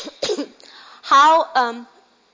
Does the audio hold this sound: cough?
yes